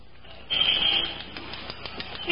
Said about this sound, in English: Maybe you ought to use the glass cutter some more.